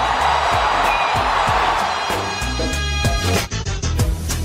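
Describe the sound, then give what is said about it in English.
A huge ballpark crowd roars continuously after a game-winning walk-off home run on a Wednesday night, loud and dense, with whoops and shouts in the mix and a thumping rhythmic beat pulsing underneath throughout. “A game-winning home run for Chris Morrell. Can you believe it? Listen to this crowd.”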